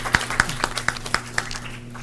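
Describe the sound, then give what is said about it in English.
Sparse applause at a meeting, honoring a man who worked with the group: about seven evenly spaced hand claps at a steady, unhurried rhythm, crisp and moderately loud, over a faint low steady hum, with no voices. “You should hear the applause for your father.”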